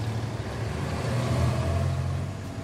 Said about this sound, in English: On this morning, he's driving an announcement truck. And he's ready to roll.